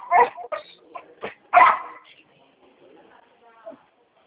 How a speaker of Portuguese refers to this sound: Tá brabo, cachorro. Esse cachorro aqui é complicado. Ele é de que raça? Ele tem raça, sabe? Agora ele é muito imperativo, é uma agonia, não para. Ele tá agitado mesmo.